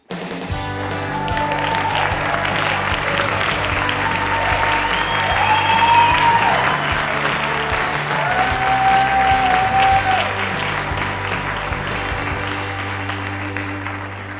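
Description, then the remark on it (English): Sustained audience applause welcoming a Medicare expert, a dense steady clatter of many hands clapping for about fourteen seconds, with a few faint whistles and cheers rising above the noise. “All that applause just gives me the vapors.”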